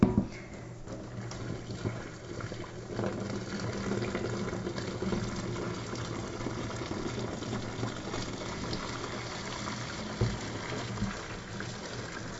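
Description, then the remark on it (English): Hot water from boiling corn pours steadily out of the pot into a sink as it is drained, a continuous rushing splash that holds at an even level throughout, with no one speaking. “So that's done. I'm going to drain the water off.”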